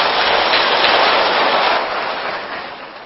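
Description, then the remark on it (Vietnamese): Loud, dense applause from a large audience welcoming a Buddhist teacher's answer to the program's final question, a steady wash of many hands clapping together that gradually thins and fades toward the end, with no voices. “Xin quý vị cho một tràng pháo tay thật lớn.”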